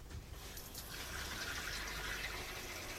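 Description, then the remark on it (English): Water runs steadily into a kettle, a continuous gushing hiss that grows slightly brighter as it fills, with no voices over the three seconds. “I'll put the kettle on.”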